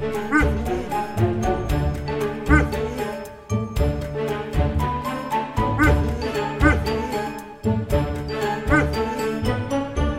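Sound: dog barking and whining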